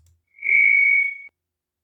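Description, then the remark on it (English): A single shrill, steady AI-generated microphone feedback tone rings out for about a second, thin and chirpy like a cricket, with no voices around it before it cuts off abruptly. “Okay, sounded like a cricket there at the beginning.”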